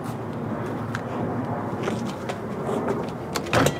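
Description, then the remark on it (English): A store door on a fake street is tried and pulled open, with a few short clicks and rattles near the end over a steady background rumble. Nobody speaks. “Let's just try the store doors and see if one of those.”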